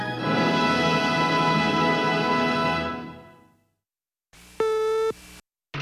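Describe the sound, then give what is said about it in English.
A sustained, buzzy harmonic tone swells and slowly fades to silence, then a single steady electronic beep sounds for about a second, signalling to advance educational film strip number 27, followed by the start of another tone. “Please advance the film strip after the beep.”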